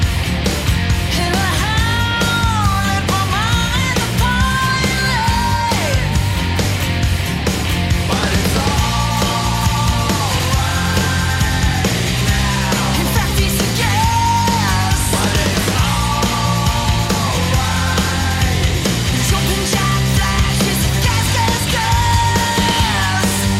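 A loud rock song plays continuously, with a wailing electric guitar bending and sustaining high notes over a dense, driving band of drums and bass.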